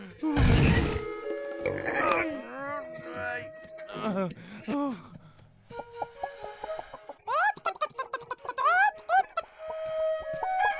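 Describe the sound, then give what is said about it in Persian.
A voice imitates a chicken, letting out a rapid string of fairly loud clucks and squawky warbles in uneven bursts, with brief gaps between them. “زبونه مرغیه.”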